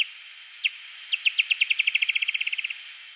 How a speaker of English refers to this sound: The bat ramps up the speed of the call even more until you get what's called a feeding buzz. Because those calls are so close together that it just sort of turns into this buzzy sound.